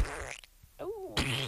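A short series of loud fart noises: a raspy sputter, a brief pause, a rising-and-falling squeaky toot, then a final blustery burst, with no talking.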